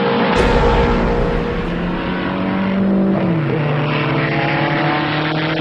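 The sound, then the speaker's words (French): Loud racing engines roar continuously as race cars sweep by through the second big corner, the Tertre Rouge, in a plume of dust. One engine's pitch drops sharply mid-clip as it passes, with a dense rumble of several cars throughout. “Dans un panache de poussière et dans les effluves d'huile de moteur, les voitures passent le second grand virage, le tertre rouge.”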